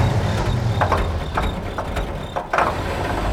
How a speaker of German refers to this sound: Also genau wie ich gedacht hatte, so hat der Motor wesentlich mehr Leistung. Boah, ist das laut!